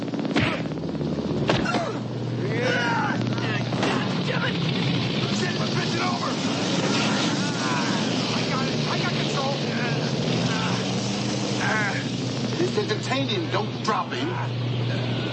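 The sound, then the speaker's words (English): A helicopter's engine and rotors roar steadily and loudly throughout, a constant mechanical drone with a low hum beneath, while several people shout and talk over the noise. “Get to the chopper. We're already on the chopper.”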